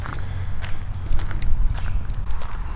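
Footsteps walking outdoors in direct sunlight at an unhurried, steady pace, each step a soft crunchy scuff over a constant low rumble like wind, with no one speaking.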